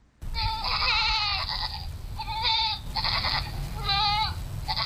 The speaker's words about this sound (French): tire ses deux chèvres hors du petit enclos situé derrière sa maison à Mozogo, une ville située sur la frontière nord du Cameroun avec le Nigeria.